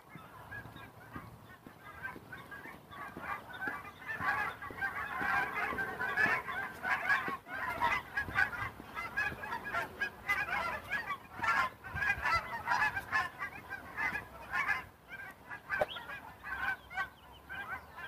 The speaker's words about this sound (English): Oh, here comes a big flock of geese.